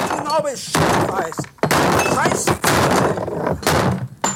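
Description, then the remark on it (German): A table being smashed apart: repeated loud crashing and splintering blows in uneven bursts, with voices shouting and talking between and over the impacts. “Und deswegen mache ich jetzt hier diesen Tisch mal kaputt, ja?”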